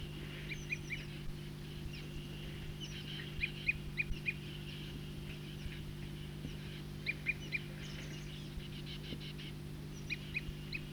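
A bird gives a tooping call: short, high, clear notes repeated in uneven little bursts over a steady low hum, with no voices.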